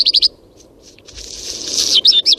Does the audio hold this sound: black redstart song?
yes